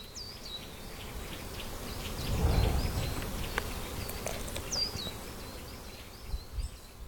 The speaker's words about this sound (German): Kannst du die Vögel singen hören? Die Insekten summen? Konzentrier dich ganz auf die Geräusche in deiner Nähe.